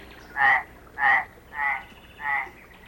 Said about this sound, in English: Right, not a bear, a frog.